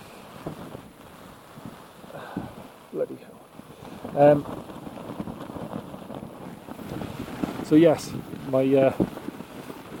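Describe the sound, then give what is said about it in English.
Strong gusty wind roars steadily in a storm with rain while a tent door flaps and rattles in irregular bursts as a man tries to peg it back down. He speaks briefly over the noise. “I'm just trying to peg this door back down, stop it from flapping so much.”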